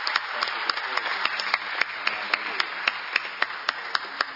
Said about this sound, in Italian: Noi vi ringraziamo di cuore e vi facciamo un calorosissimo applauso in segno della nostra riconoscenza.